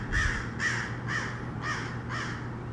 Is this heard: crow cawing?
yes